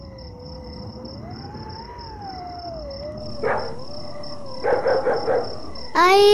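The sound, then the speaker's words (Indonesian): Strong wind howls outside a house, blowing hard enough to get inside, in a single wavering, rising and falling moan, with a few brief gusty bursts toward the end and a faint steady high whine above it. No one speaks. “Angin di luar kencang sekali ya, sampai-sampai masuk ke dalam rumah.”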